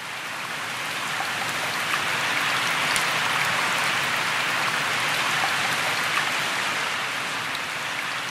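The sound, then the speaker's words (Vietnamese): Steady rain pours down without pause, a dense, even hiss of drops striking a surface, with no voices and no change in intensity throughout. “Chẳng may, miếng lót bị nước mưa thấm vào và nó rách tơi tả, thế là chân chị bị ướt sũng.”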